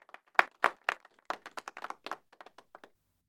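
A short burst of scattered hand claps from a small group, uneven and overlapping, starting strong and thinning out to a few sparse claps after about three seconds.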